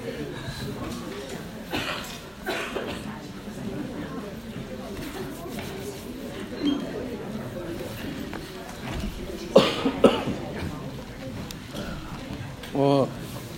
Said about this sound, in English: Yeah, so excuse me, I got a bad cold and I've been coughing ever since.